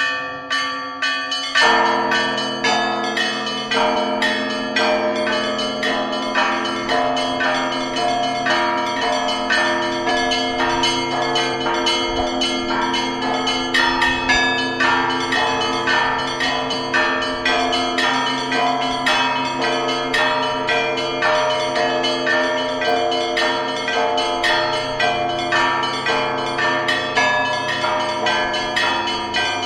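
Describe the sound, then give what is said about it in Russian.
Christmas church bells peal continuously for about half a minute, several bells struck in a rapid, steady rhythm with rich overlapping tones, loud, with no voices. “Ну, а теперь, дорогие радиослушатели, рождественский колокольный звон.”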